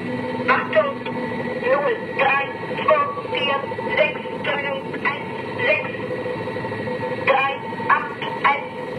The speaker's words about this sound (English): Just the weird beepy static of shortwave radio in the background, like just this.